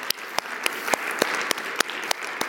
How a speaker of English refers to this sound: But today is a special day because today he turns 97 years old. Why don't we give him a round of applause?